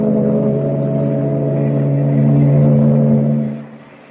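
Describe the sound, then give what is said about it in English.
A ship's engine drones steadily as the ship clears the harbor and heads for the open sea, a loud, low, continuous hum with layered tones that swells slightly midway and then drops away near the end. No voices are heard. “Meanwhile, three decks above, well out of earshot, Clark Kent waits for the boys at the shuffleboard court as the ship clears the harbor and heads for the open sea.”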